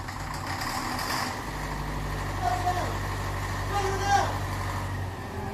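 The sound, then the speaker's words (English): A generator engine with a plugged exhaust runs at a steady, rough idle, with a heavy low rumble and a constant mechanical drone that holds for several seconds. The sound is fairly loud, with no talking. “Something's plugged that exhaust, all right.”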